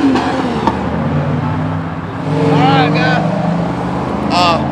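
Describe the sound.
Road traffic heading to an elementary school and a high school rumbles past a union coal miners' picket line, with vehicle engines droning steadily and swelling as cars pass, while faint voices and brief tonal calls rise over the noise.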